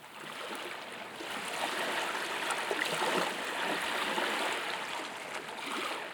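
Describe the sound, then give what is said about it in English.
Rushing river rapids roar steadily, a dense, continuous wash of churning water that stays full and even throughout, with no voices. “Four hunters in the flowing water bringing down their guckyvucks, type of spear, to pierce the fish below, which have been ascending the rapids to reach their mating grounds.”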